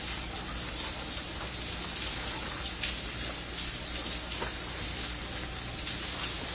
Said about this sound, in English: This is the famous shower sequence.